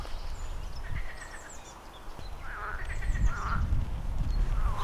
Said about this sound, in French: Il a tellement plu, il y a tellement de zones marécageuses que je suis accompagné régulièrement par les grenouilles. C'est très sympathique. Je ne les vois pas, mais je les entends.